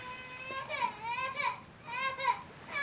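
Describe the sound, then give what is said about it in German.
A child bawls in loud, drawn-out, strained wails, two rising and falling cries that break and restart in quick succession. “Sprechen wie ein Baby, aber brüllen wie ein Weltmeister.”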